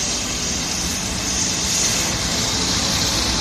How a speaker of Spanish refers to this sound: Bueno, esto que suena a nieve, ¿eh? Lo más parecido que hemos encontrado.